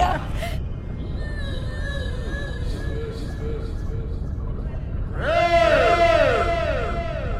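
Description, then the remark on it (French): A person imitates a whale call with long, wavering, high-pitched moans over a low crowd murmur, then swells louder near the end into swooping rising and falling cries. “C'était mon meilleur cri de baleine.”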